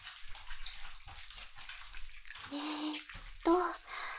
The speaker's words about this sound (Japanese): 軽くシャワーで流して、